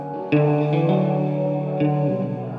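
A guitar on stage during a sound check rings out a few strummed chords drenched in reverb, each note blooming and lingering into a washy, echoing tail. It is fairly loud, with no voices.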